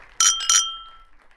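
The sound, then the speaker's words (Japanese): Two bright clinks of glasses raised in a toast at a drinking party, close together and fairly loud, each leaving a clear ringing tone that fades away over the next half second, with no voices. “乾杯。”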